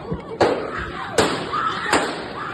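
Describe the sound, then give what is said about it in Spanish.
Three sharp gunshots ring out at roughly even intervals, each a loud crack with a short echo, over a steady rumbling background of a moving passenger train, fired during a confrontation between two men aboard. “Se inicia la confrontación entre los dos hombres y después se escuchan los disparos.”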